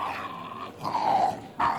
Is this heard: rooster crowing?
no